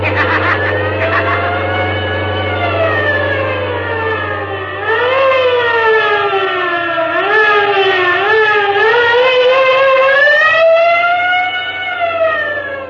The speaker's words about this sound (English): Wait, what's that? Sounds like the police. Yes, it is. Hold on, Professor. It looks as if we're in for a chase.